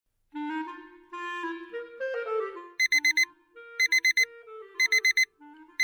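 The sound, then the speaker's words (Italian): A clock radio alarm goes off at 5:30: a soft melodic tune plays, then loud, rapid electronic beeps cut in, repeating in short bursts of three or four. “La radio sveglia si accende alle 5:30.”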